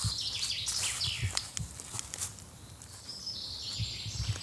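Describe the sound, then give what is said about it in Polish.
A chaffinch sings a quick descending trill, then thinner high chirps follow, fairly faint outdoors, with soft low rumbling beneath and no talking. “Znowu zięba, tak jak i tydzień temu, cały czas jest i ona faktycznie bardzo wytrwale śpiewa.”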